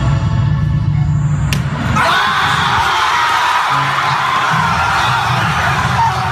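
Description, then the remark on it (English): A high school talent show audience erupts in loud cheering, whooping and yelling, the dense roar of the crowd rising suddenly after a brief, murmuring lead-in and staying intense to the end. “That last video was from a high school talent show. I know, look at the reaction.”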